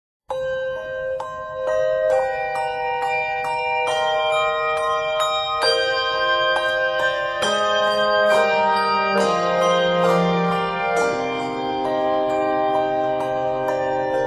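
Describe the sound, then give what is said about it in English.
A handbell choir plays a gentle melodic Christmas piece on 3 to 5 octaves of handbells, clear ringing tones struck in steady succession with overlapping sustained chords that shimmer and decay, full throughout with no voices. “However, this piece works just as well with handbells alone.”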